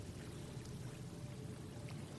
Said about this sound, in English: Looking out to the horizon, listening to that water.